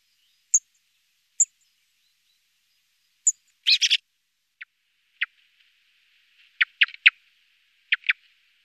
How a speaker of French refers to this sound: Grive musicienne, 16 cm. Bel oiseau forestier, la grive, avec son plumage brun, passe inaperçue sur le sol forestier où elle chasse en courant et en sautillant. Grande amatrice d'escargots, elle fait éclater leurs coquilles contre les pierres.